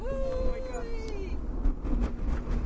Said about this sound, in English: That's how it sounds when the plane comes to a halt. It was a plane coming to a halt.